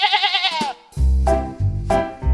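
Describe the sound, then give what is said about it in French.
Sheep bleat: a high, wavering cry followed by two deeper, drawn-out baas, each loud and quavering, with no talking. “Et aujourd'hui, on va parler des moutons de Panurge.”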